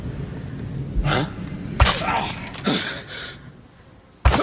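Several crossbow bolts fired at an enemy in a video game, each a sharp whooshing twang ending in a thud, spaced irregularly over a few seconds, loud with no talking.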